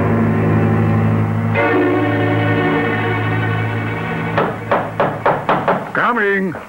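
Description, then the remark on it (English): A series of about six heavy, evenly spaced knocks on a front door by a man standing out in the cold who forgot his key, loud, sounding over a sustained musical drone that fills the background. “Would I be standing out here in the cold, banging away at the door if I hadn't?”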